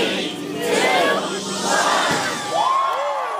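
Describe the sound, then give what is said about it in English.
A large crowd of hundreds of people cheers and shouts in a dense, continuous roar as the gates of Magic Kingdom at Disney World open at 8 a.m. and they storm through, with individual whoops and excited yells rising above the din throughout. “Mickey and friends show up to open the gates. Hundreds of people storm through.”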